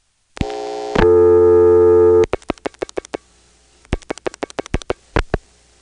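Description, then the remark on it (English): A steady telephone tone gives way to rapid hookswitch clicks in two bursts, about six then seven sharp taps separated by a brief pause, as the number 67 is flashed on the hookswitch of a touchtone phone to pulse-dial it. No one speaks. “I'll have to flash the number, of course, because this is a touchtone phone.”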